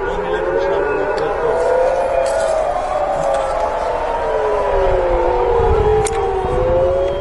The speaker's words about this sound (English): Air raid sirens have been heard across Israel after Iran reportedly launched more than 100 missiles at the country.